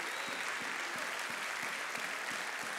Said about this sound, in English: I think we owe God a clap offering.